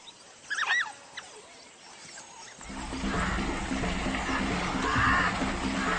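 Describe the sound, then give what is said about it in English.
Wild dogs give a few quick, high-pitched, bird-like chirping calls, used to coordinate their hunt, in short bursts early on, then a steady rough rustling noise takes over with no further calls. “But they sound like no other dog on the planet. Prey can mistake these sounds for chirps from a harmless flock of birds.”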